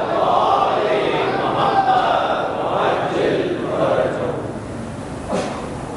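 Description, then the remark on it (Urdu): A large audience loudly recites salawat in unison, many voices blending into a sustained, rhythmic roar that fills the space for several seconds before tapering slightly. “برائے خوشنودی حضرت امام زمانہ بلند تر سلام اللہ مسلم محمد والے.”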